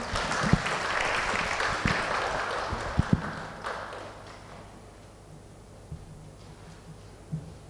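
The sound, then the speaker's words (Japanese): An audience at a Gideons gathering in Japan applauds steadily for about four seconds to welcome a speaker, a dense wash of clapping with a few sharper individual claps, then it fades to quiet with scattered faint taps. “歓迎の意味を込めて拍手を持ってお迎えいたしましょう。”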